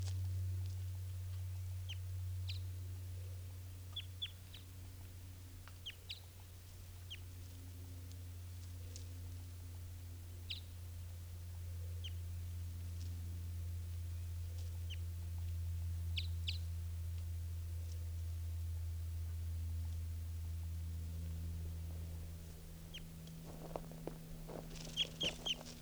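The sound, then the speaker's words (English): A female bird, one of a mated pair, calls in short, high-pitched chirps that repeat at irregular intervals, fairly faint, over a steady low hum. A quick flurry of chirps comes at the very end. No one speaks. “Here she comes again. Stop. Start. This is her calling.”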